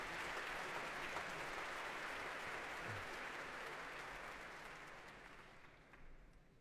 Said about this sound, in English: That applause for tonight's leader of the London Symphony Orchestra, Carmine Lowry.